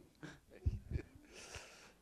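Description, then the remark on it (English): A quick wheezy intake of breath and a couple of low snorting bursts lead into a sneeze, ending in a breathy hiss. No one speaks. “Bless you.”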